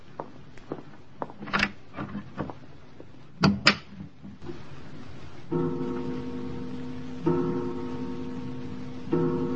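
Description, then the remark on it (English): A door is handled with a series of clicks and knocks, then a louder double thump as the unlatched door swings open and someone walks in; a steady low tonal drone follows and continues to the end. “Forgive me for just walking in, Herr Leutnant.”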